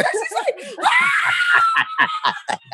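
A loud, high-pitched ecstatic scream from a live concert audience, held for about a second, with breathless excited vocal bursts before and after it.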